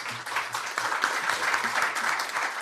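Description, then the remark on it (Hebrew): People at a press conference ahead of Brazil's match against Spain clapping steadily for Vinícius, a dense, even patter of many hands sustained throughout with no pauses, fairly loud, with faint low murmuring beneath. “אני רק רוצה לשחק כדורגל, לעזור למועדון שלי ולמשפחתי, אומר ויניסיוס בכל חנוק, שהנוכחים מוחאים לו כפיים.”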